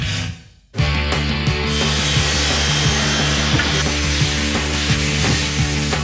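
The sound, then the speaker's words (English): After a brief quiet moment, a power drill starts up and bores steadily into the metal lock of a bowling vending machine, its loud whine broken by regular grinding surges as the bit bites. “Rick has Cowboy and I drilling out the lock on this bowling vending machine.”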